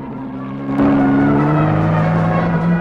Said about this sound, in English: The red car, black sedan, and the coach are all in a convoy. The coach hurtles around a bend.